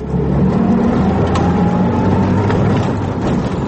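A field guard's jeep on a border patrol suddenly accelerates with a steady, loud low-pitched roar and rumble, sustained throughout with no voices.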